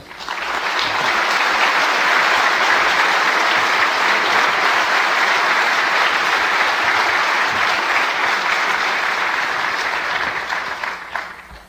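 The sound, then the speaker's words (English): Sustained applause from a sizable audience for speaker Philip Zimmerman, a dense steady wash of clapping hands that stays loud for about ten seconds before tapering off near the end. “Okay, with that said, I'd like to have a round of applause for Philip Zimmerman.”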